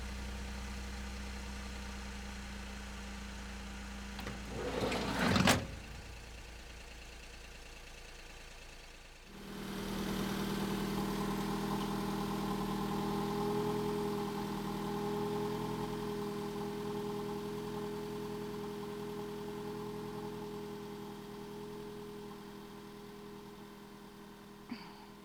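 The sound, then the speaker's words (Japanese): A large bus engine idles with a low steady rumble, a brief hiss or clatter sounds, then the engine revs up and drones as the bus pulls away. No one speaks. “なんで乗らなかったの？次、バス来るの1時間後だよ。”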